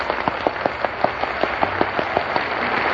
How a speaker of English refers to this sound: Oh, Frank, that applause wasn't for you. It was for … here.